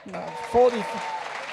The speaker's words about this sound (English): Thank you. That's the easiest round of applause ever.